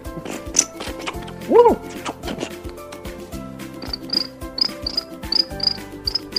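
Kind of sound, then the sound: insect, crickets chirping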